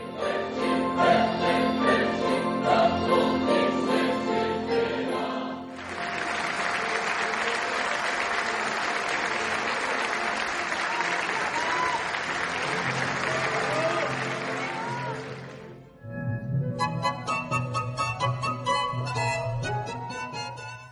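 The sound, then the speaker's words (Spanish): Loud, dense ovation from a concert audience at the Teatro Ángela Peralta in Mazatlán fills about ten seconds, bursting in right as Carl Orff's Carmina Burana, closing with O Fortuna, ends in sustained orchestral and choral music, then fading as tonal sound resumes. “Como cierre, la portentosa Oh Fortuna volvió a convulsionar al Teatro Ángela Peralta y después el público celebró a los artistas con una fuerte ovación que despidió la noche de Carl Orff en Mazatlán.”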